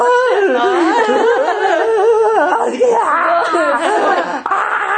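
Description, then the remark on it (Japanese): Someone loudly imitates the blubbering, wailing cry of a younger brother whose older brother was killed in the story, crying as hard as the 'full-throttle' politician. The voice swoops and wavers in pitch through several seconds of continuous sobbing sounds, with a hint of laughter mixed in. “ここの大泣き具合は例えるならもうあれですよ。フルスロットル議員ですよ。あれぐらい泣いてますが。”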